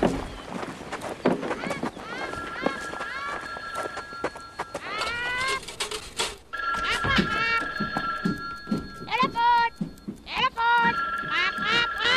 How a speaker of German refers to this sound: Da, das Telefon. Die rote Lampe an der Werkbank blinkt.